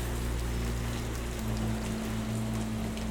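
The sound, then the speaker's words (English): A steady, soft hiss of light drizzle falls continuously, with a low constant hum beneath it and no voices. “She'd built herself into the dam, the days of her life piled up with the bricks, and she tried to stop the leak with her palms, holding the water in with body and will, crouching in the cold gray drizzle.”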